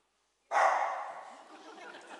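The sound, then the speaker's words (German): After a brief silence, a dog lets out one sudden, loud bark that drags into a rough, breathy rasp and slowly fades, with no one talking. “Ich habe mir auch aufgeschrieben, Gott kann durch einen Esel zu dir sprechen, aber auch durch einen Hund, wie ihr seht.”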